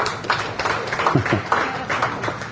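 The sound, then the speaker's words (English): An audience applauds for a mention of Preston Sprinkle in a dense, steady patter of many hands clapping at a moderate volume, with a brief voice rising faintly underneath midway through. “So the microphone doesn't work, and then they applaud for them.”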